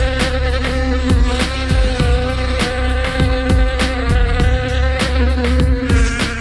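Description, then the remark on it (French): A voice imitates a fly in a song, droning in a continuous, fly-like buzz over a steady thumping beat, loud throughout, with no words spoken. “Fais-moi la mouche. Oh oui, fais-moi la mouche.”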